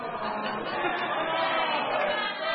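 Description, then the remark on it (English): A crowd cheers and calls out together in a dense, steady roar of overlapping voices that holds for a couple of seconds without dropping off. “Don't cheer him.”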